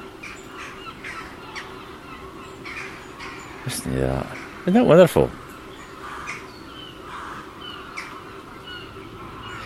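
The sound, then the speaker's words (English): Seagulls give a few loud, harsh calls in the middle, while smaller birds chirp faintly in the background among mature sycamore, ash and beech trees, and a person speaks briefly. “And seagulls are joining the fray. So many birds in the sky, actually.”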